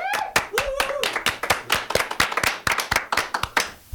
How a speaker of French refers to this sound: On peut les applaudir, je crois.